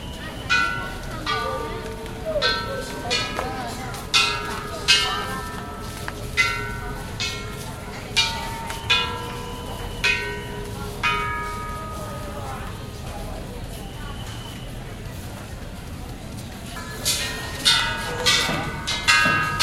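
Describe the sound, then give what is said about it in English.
Temple wishing bells and gongs at a Buddhist temple just outside Hong Kong are tapped again and again at an irregular pace by visitors walking the sacred grounds, each strike ringing out with a bright, shimmering tone over a murmur of crowd noise and footsteps. “Just outside of Hong Kong, visitors walk the sacred grounds, tap wishing bells and gongs, and spin prayer wheels.”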